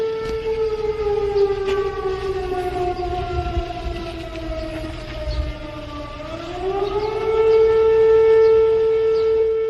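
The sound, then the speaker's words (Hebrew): A loud air raid siren wails steadily across Israel in the early hours of a Saturday morning, sounded to prepare the public as Israel launched a pre-emptive strike on Iran; its tone slowly slides down in pitch before swooping back up and holding high, with a low rumble underneath and no one speaking. “אלה היו האזעקות שנשמעו ברחבי ישראל בשעות הבוקר המוקדמות אתמול בשבת בבוקר כהכנה לציבור, כאשר שר הביטחון ישראל כץ אישר מתקפת מנע מוקדמת על איראן.”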